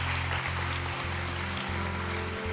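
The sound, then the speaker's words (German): An audience at a church service applauds steadily, a dense wash of many hands clapping at once, sustained at even loudness with a low hum running underneath and no voices. “Wenn du, yes, lass uns gerne diesen Leuten einen Applaus geben.”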